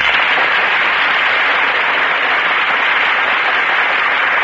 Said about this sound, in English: And here come the stars. The audience breaks into applause as Joan Blondell and Melvin Douglas enter our Gulf Theater stage.